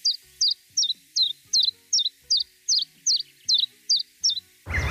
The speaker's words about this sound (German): Das ist schon wieder der Grünspecht, der sich auch ab und zu hören lässt.